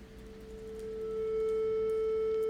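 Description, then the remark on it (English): A steady, pure sine tone generated by a line of code in the SuperCollider computer music language holds at one pitch, swelling gradually louder over the first second and then sustaining evenly, with faint background hum and no talking. “That's a beautiful, smooth, continuous, and perhaps slightly boring sine wave.”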